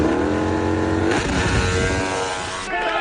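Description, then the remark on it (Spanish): A racing motorcycle ridden by Alex Clemente roars, loud and continuous, its pitch climbing through hard revs with a brief drop and surge partway through, then pulling high again near the end. “Así que le hemos pedido a Alex Clemente, que de esto sabe, que se suba con nosotros a la moto.”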